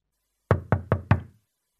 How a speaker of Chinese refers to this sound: 熟悉的敲门声响了起来